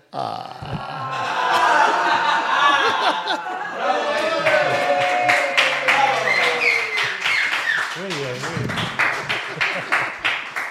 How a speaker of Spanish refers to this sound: Y con ese misterio humorístico que provocó aplausos forzados. Es increíble que lo tienen el contrato que aplaudan.